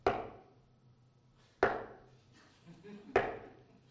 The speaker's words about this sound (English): Have you ever thought of that when somebody knocks at the door? Is it a knock you want to respond to or not? What if somebody went?